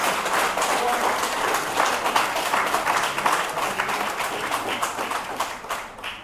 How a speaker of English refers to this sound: And I assume it's more than beyond Marigot people clapping. Huh? Honest people are clapping.